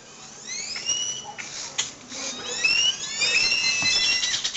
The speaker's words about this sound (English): Well, birds, obviously that sound comes to us from Nicaragua. Those are birds singing in a tree around sunset in the northern coffee region of San Ramon, Nicaragua.